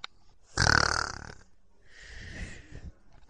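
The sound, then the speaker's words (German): A loud, rasping snore swells up and fades, followed by a softer, breathy second snore, with no talking. “Der Wolf verschlingt Rotkäppchen, legt sich wieder ins Bett und fängt an zu schnarchen.”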